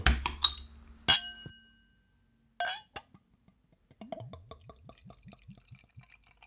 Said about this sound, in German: Ich würde mal sagen, wir öffnen mal dieses Bier. Übrigens, diese Flasche gibt es auch schon seit 1800 irgendwas.